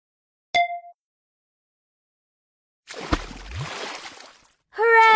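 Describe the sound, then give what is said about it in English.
A short bright chime rings out, then a burst of sloshing, splashing bath water with lots of bubbles lasts a second or two before a squeaky, tonal sound cuts in at the end. “Then it was time for a bath with lots of bubbles.”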